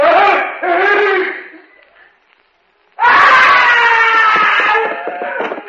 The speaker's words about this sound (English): I heard a scream.